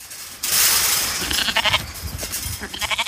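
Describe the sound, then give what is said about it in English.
A flock of sheep bleats on a farm about half an hour west of Canberra, bordered by national parks and pine forest, in overlapping, wavering calls against a steady outdoor hiss, several animals calling at once, with no one speaking. “About half an hour west of Canberra, Bruce Griffin's sheep farm is almost entirely bordered by national parks and pine forest.”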